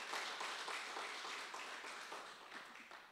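A church audience applauds the Lord during a sermon: dense, steady crowd clapping fills the whole clip at a fairly even loudness, fading only slightly toward the end, with no voices standing out.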